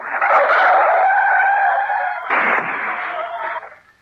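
A vehicle's tyres give a long, high screech that holds steady for about two seconds, then a loud crunching crash bursts in as it hits a lorry slewed across the road at a junction, rumbling on before fading out. No voices.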